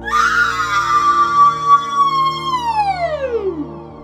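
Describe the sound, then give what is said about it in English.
A loud, shrill machine-like scream from an AI in farm machinery being booted up for the first time. It holds one piercing pitch for a few seconds, then slides steadily downward and fades out, with no voices around it. “The first time James booted her up, she screamed.”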